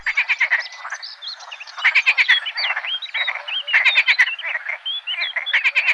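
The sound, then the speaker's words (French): A lively chorus of green frogs croaking from all around a wetland by a small boardwalk, dense overlapping calls with rhythmic bursts of rapid rattling pulses, fairly loud, with no voices. “Ça chante de partout, les grenouilles vertes.”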